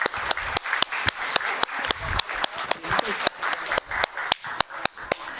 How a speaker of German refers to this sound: Und ja, wir geben noch einmal einen richtig großen Applaus für die tolle Gruppe und ihr tolles Produkt.